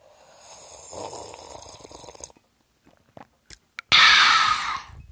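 drinking water

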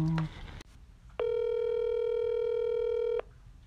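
telephone dialing tones

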